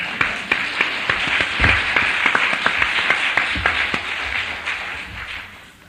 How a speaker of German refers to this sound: Ihr dürft einen Applaus geben für den Herrn, nicht für mich.